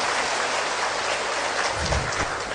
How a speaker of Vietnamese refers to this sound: Xin toàn thể đạo tràng cho một tràng pháo tay để tỏ lòng cung nghinh thượng tọa.